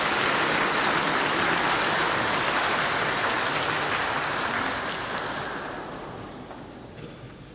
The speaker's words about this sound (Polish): Jeszcze raz gromkie brawa w podziękowaniu za cały program słowno-muzyczny.